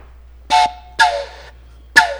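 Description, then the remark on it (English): A train horn sounds three times in quick succession, each blast brief and brassy, the second one drawn out a little longer, over a steady low background rumble. “I hear a train.”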